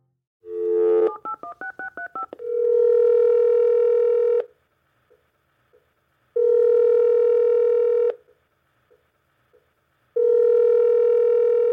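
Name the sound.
telephone call ringing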